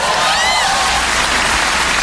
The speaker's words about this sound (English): Bacon's the best. Even the frying of bacon sounds like applause. It's like, ah! Yay, bacon!